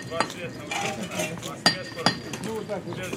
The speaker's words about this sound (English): Later, I notice the hammering is even slightly melodic. By the end, I am listening to the sounds of this city street like they are music.